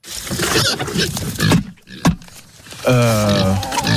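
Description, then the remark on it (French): A pig about to be fed grunts and snorts in a rapid, excited series, ending in a louder, drawn-out squeal, with no talking over it. “Le second, c'est un cochon qui est sur le point d'être nourri.”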